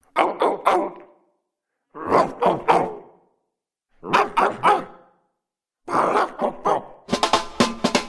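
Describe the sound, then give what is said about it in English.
A pack of trained dogs barking in repeated bursts of three or four quick barks separated by short pauses, ending in a dense stretch of overlapping barks as several dogs join in, fairly loud. “Here at Freakonomics Radio, we've given one particularly clever pack of dogs some very specific training.”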